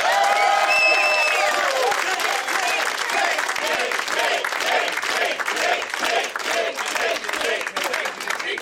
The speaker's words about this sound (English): Oh my God! The are they saying taint? The chanting, yes, they're yelling taint over and taint, over again. Taint, because that's such a fun word to say. Taint, taint, yes.